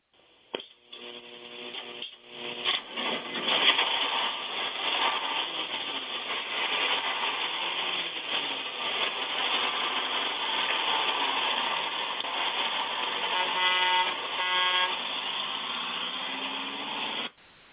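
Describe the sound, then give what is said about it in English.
A bus engine rumbles and roars steadily as the bus pulls out of the station at night, with brief tonal horn blasts near the start and again toward the end before the sound cuts off. “on the Six Eyes Gospel Bus as we pull out of the station tonight”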